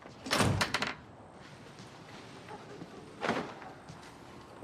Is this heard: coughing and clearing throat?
no